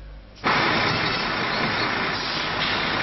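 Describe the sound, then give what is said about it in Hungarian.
The engine of a BKV city bus in a bus garage in Buda, Budapest, rumbles steadily and loudly, a dense continuous drone that kicks in abruptly after a brief quieter moment and holds constant, with no one talking. “Ez a busz nem indul el holnap hajnalban a budai garázsból.”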